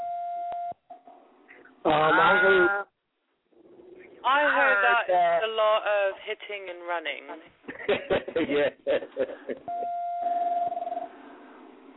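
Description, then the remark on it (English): A steady, single-pitched telephone tone hums briefly at the start and returns for over a second near the end, with people talking over a narrow, phone-line sounding connection in between. “Who phone is giving that?”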